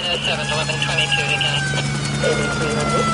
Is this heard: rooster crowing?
no